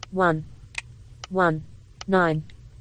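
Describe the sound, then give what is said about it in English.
Touchscreen on-screen keyboard taps while a four-digit numeric passcode is entered: a handful of short, crisp clicks spaced irregularly, alternating with bursts of a speaking voice. “And here's the on-screen keyboard.”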